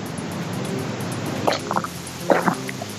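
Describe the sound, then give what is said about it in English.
A man drinking pints of water gulps: a few wet gulping swallows come in a quick cluster over a quiet hissing background, with no talking. “Are you drinking lots of gulps here?”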